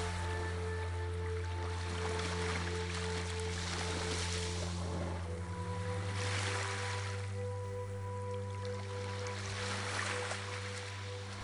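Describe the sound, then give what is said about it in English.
Ocean waves wash in slow, swelling surges of broad hiss, rising and falling every few seconds over a steady, low droning hum. No one speaks. “In this moment, silently surrender your stress to the waves.”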